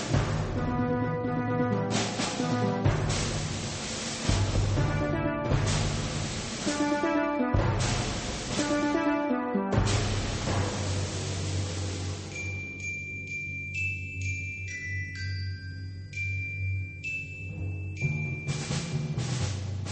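A piano used as a percussion instrument in Maurice Jarre's music for Volker Schlöndorff's film The Tin Drum, hammering out loud, heavy repeated chords in uneven bursts, then giving way to sparse, high tinkling notes that ring over a low sustained tone.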